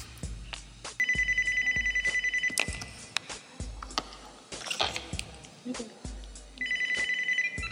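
A telephone rings in two loud, trilling bursts separated by a few seconds of pause, with some thumping and clattering household noises in between.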